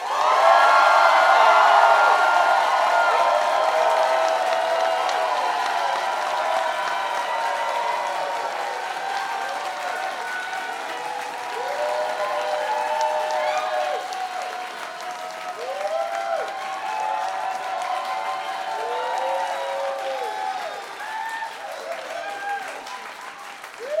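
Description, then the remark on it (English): A live audience applauds steadily for about twenty seconds to vote on whether a hot dog is a sandwich, with the applause measured by an applause-a-tron. It is loudest at the start, with scattered cheers and whoops rising over the clapping and a few voices calling out. “And that will measure your applause.”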